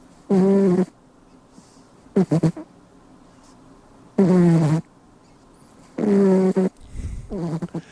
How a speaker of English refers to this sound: It's my cat, Rico, snoring as he sleeps on the end of my desk.